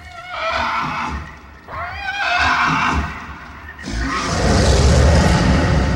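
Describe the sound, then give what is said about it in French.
An old recording of loud, shrill dinosaur cries comes in three long waves: two wavering, whinny-like screeches, then a harsher, rumbling roar with heavy low-end noise that fills the final seconds. No one speaks. “Voilà, c'est un vieil enregistrement de cris de dinosaures”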